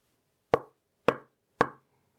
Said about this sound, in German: Was war das? Irgendetwas klopft an ihre Wand.